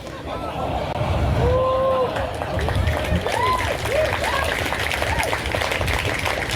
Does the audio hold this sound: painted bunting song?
no